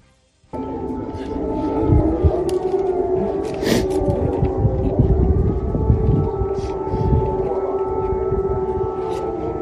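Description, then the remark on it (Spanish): An air raid siren wails steadily and loudly during bombardments, a sustained rising-and-holding tone that fills the whole clip, with faint background rumble and no clear talk. “Edificios residenciales atacados, civiles muertos, imágenes que nos sobrecogen, como los padres que acompañan el féretro de su hijo por las calles llenas de escombros mientras las sirenas antiaéreas siguen sonando.”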